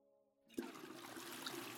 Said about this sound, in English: You hear a toilet flush.